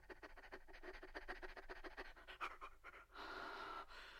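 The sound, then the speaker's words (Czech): A dog lying by its kennel, hot in its shaggy coat, pants rapidly and steadily, quick rhythmic breaths repeating for several seconds, ending in a longer, louder huffing exhale. “U boudy ležel pes. Bylo mu horko v huňatém kožichu.”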